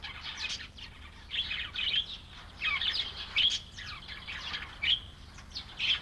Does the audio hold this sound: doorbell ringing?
no